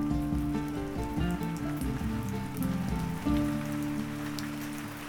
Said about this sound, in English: The rain is beginning to come down hard, so I'll take my apples with me and leave the orchard soon, grateful to have these tasty and fragrant reminders of the joy of fall.